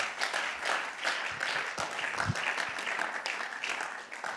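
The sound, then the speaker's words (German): Steady audience applause welcoming an interview guest on stage, a dense wash of many hands clapping at an even, sustained loudness for several seconds with no talking over it. “Er ist mein Interviewgast heute und gebt ihm doch einen herzlichen Applaus.”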